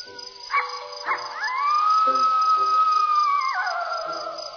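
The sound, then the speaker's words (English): A coyote gives a couple of short yelps, then one long, wavering howl that rises, holds steady for a few seconds and drops away at the end, fairly loud and clear. “Probably just a coyote.”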